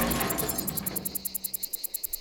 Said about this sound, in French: On l'entend, mais on ne la voit pas. Chaque été, dès que le mercure dépasse 22 degrés, les cigales de Provence entament leur concert tonitruant.